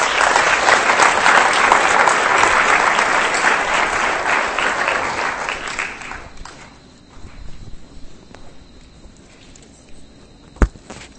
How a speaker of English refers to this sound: I'm going to give you this mic, so give a round of applause